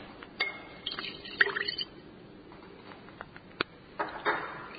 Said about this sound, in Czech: Za tačno i precizno odmeravanje tečnosti potrebna nam je menzura. To je onaj duguljasti sud koji ima postolje i skalu sa strane. Sipat ćemo 5 ml vode u naš sud sa odmerenim kriselohidratom.